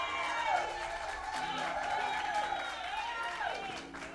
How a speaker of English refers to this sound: Give our minister of music a big hand clap.